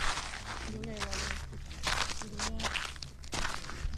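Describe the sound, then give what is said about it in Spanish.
Footsteps crunching over a salt pan in the Valle Salado de Añana, at the presentation of the 2022 salt harvest, a steady series of gritty, rasping steps that continue for the whole stretch, with faint voices murmuring underneath. “Estoy en una era de sal. Pisando, en el Valle, ¿no?”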